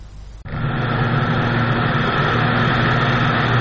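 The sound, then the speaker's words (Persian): A fully electric two-seat airplane, built by an aviation company in Slovenia and the first fully electric aircraft certified to fly by the European Aviation Safety Agency, flies by, its steady, loud whirring drone with a tonal hum kicking in abruptly after a brief quieter moment and holding constant, with no voices. “اولین مجوز پرواز یک هواپیمای برقی از آژانس ایمنی هوانوردی اروپا.”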